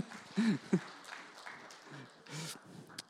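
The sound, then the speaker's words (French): An audience claps steadily for about three seconds, a dense crackling patter with a few brief vocal whoops rising above it. “Vous avez réussi, on peut les applaudir.”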